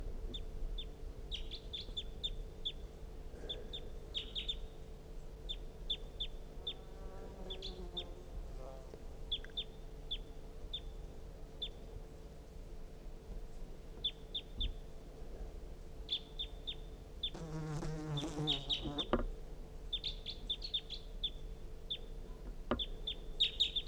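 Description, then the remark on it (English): Recorded decoy bird calls: a steady run of short, high chirps throughout, broken by a few louder, harsh, buzzy call bursts, all over a constant low hum. “That was the decoys.”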